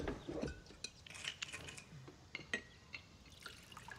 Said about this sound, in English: Massey takes a bottle from a drawer and pours liquor into her glass.